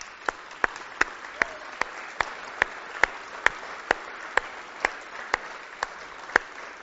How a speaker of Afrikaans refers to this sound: Kom ons gee vir die Here net 'n applous.